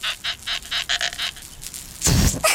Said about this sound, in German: Diesmal quietscht Kalli mit einem neuen Luftballon.